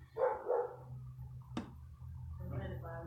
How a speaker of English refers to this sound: I'm used to babies crying in church, not dogs barking in church.